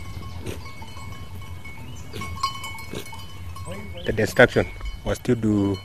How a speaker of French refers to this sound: Il est assis, à flanc de colline, dans une large clairière. Ses vaches et ses chèvres broutent autour de lui.